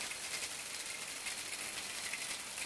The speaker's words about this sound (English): Ultrasonically, this fridge leaves a different impression.